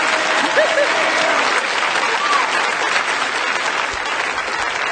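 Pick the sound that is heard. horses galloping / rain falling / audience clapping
audience clapping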